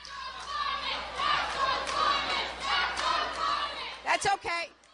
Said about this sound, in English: The chants died down very quickly, and a banner unfurled by the student activists was soon obscured as the crowd gave a standing ovation to Clinton.